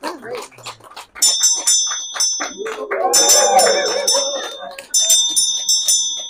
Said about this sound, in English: A Vajra bell, for those of you who don't know. Yeah. A Vajra bell. Ringing the changes. Sound of wisdom.